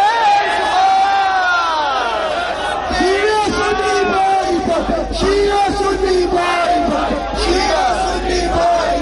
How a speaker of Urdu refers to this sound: اب ہمارے یہاں سنت بھائی نعرے لگائیں گے, لبے کیا رہے اسے ہم نے جواب دینا, نعرہ تکبیر اللہ, نعرہ رسالت یا رسول اللہ